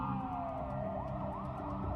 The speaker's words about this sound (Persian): آمبولانس بود.